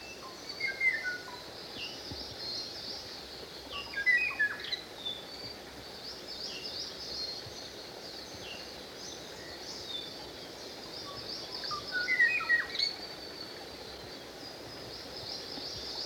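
A Kauai Oo, an extinct bird species of the island of Kauai, Hawaii, sings brief, clear whistled phrases in three spaced bursts over a steady, hissing background of insects or forest ambience, with no voices.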